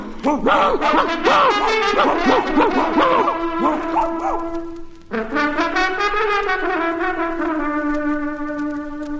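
A pack of hunting hounds in pursuit of a wolf bays and yelps in rapid, overlapping cries, loud, then one long drawn-out howling note holds steady to the end.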